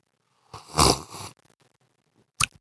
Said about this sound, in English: So anyway, got a cup of coffee with me here. So let's take a sip.